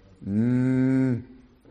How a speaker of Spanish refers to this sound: Inmediatamente el balido de las ovejas y el bramido de las vacas lo delató, ¿no es cierto?